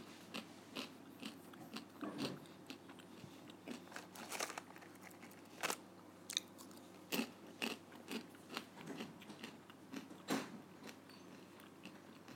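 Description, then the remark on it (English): Crunchy eating and chewing noises, a run of irregular crisp bites and crinkly mouth sounds, some sharper clicks standing out, with no talking. “Sorry for the eating noises.”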